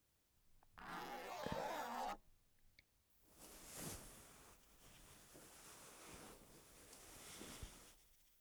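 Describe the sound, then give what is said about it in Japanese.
A skirt zipper is pulled down in a rasping stroke lasting over a second, followed after a pause by a longer, softer stretch of fabric rustling and scraping. “そこのチャックを下ろして。”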